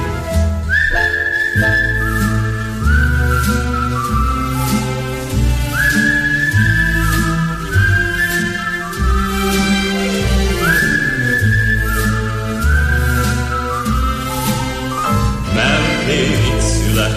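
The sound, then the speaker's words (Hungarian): A bright whistled melody with sliding notes rides over a full band backing of bass and steady drums, loud and close, continuing through several phrases without any singing. “Ha nem tudok aludni éjjel, és nem jön az álom felé, veszem a kalapot, a kaput becsukom, s fütyülve indulok én.”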